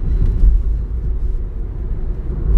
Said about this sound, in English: So while you're doing that, and while I'm driving down the road and concentrating on traffic